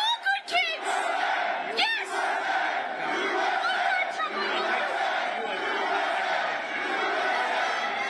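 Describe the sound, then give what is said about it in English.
A large crowd at a Trump rally boos loudly and continuously, a dense roar of many voices with a few sharp individual shouts rising out of it near the start. “The crowd is all booing.”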